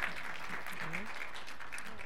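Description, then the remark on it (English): A crowd applauds a praise and worship team steadily, a dense wash of clapping that holds at an even level throughout, with faint voices murmuring underneath. “Can you show your appreciation to the praise and worship team?”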